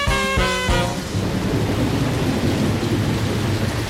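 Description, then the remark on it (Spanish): Heavy rain pours steadily and loudly in Málaga, a dense continuous hiss with a deep low rumble underneath, briefly preceded by a short tonal note at the very start. No one speaks. “Estamos aquí en Málaga. Otra vez y hay mucha lluvia.”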